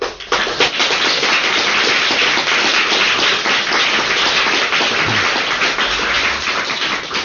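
A dense, steady wash of crowd applause from many hands, loud and continuous for several seconds without pause, with no talking over it.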